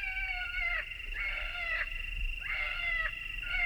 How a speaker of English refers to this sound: And from their pickup truck comes the recorded call of a wounded rabbit.